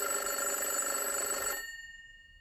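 A telephone rings on an outgoing call waiting to be answered, a bright, steady electronic trill for about a second and a half, then cuts off, leaving a few faint tones fading away. No one speaks.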